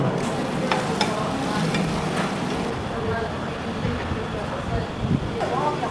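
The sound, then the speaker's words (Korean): Continuous sizzling and scraping of eggs and oysters for a Penang dish, stir-fried separately on a hot griddle and combined at the end, with clinks of a metal spatula, over a low hum of background chatter. “사실 계란이랑 그 오이스터를 따로 볶더라고.”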